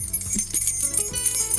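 A bunch of two keys on a keyring, lost in a shared taxi (colectivo), jangles: a bright, continuous metallic clinking and rattling that shimmers throughout the short moment with no voices.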